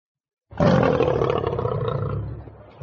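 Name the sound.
tigers roaring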